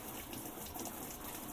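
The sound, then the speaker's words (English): Steady rushing water runs without a break, a broad hissy gush like a fill valve pouring into a washing machine drum during the rinse cycle, fairly faint and constant throughout. “The water started up.”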